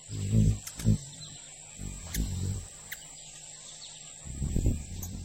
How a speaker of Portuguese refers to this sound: Beija-flor.